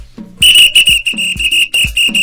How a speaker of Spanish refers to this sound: Oigan esto, compañeritos, oigan esto. Y con silbato.